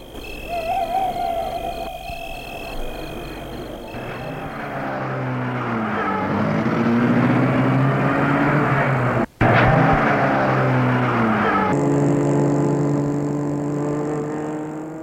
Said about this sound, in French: Et le chauffeur met la voiture en route.